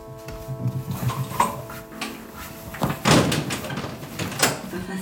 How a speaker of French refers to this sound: Les volets de la cuisine, c'est bon. La salle de bain, ça y est. Il y a encore les deux portes-fenêtres du salon à fermer. Voilà. Vous avez fermé tous les volets ?